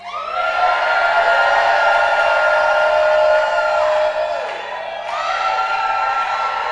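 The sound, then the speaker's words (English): At a Shabbat service, the audience shouts to praise God with a loud voice: a loud, sustained shout rings out for about four seconds, dips briefly, then surges again, the voices straining and holding the yell at full volume. “I don't want demi semi-loud. I want full loudness. So let me hear you.”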